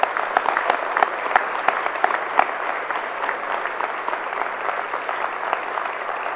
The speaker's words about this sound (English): I said just a hand. You have to give her a hand and a foot. My gosh, I don't get that applause.